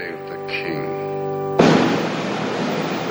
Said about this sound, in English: Outside, soldiers fire cannons.